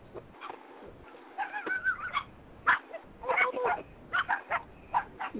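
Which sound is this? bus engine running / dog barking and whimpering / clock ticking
dog barking and whimpering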